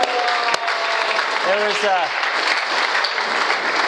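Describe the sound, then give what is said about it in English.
An audience at DTC gives a steady burst of applause for seniors standing up, dense and fairly loud throughout, with a brief voiced cheer or whoop rising and falling partway through. “I want to give them a round of applause, guys.”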